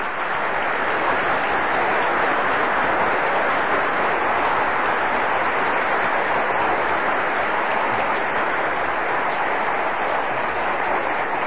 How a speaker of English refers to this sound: While I'm talking about the original people, we actually have Jay Miner in the audience right now, and I'd like to invite him to stand up and get a round of applause from you guys. Jay Miner's right here in the front.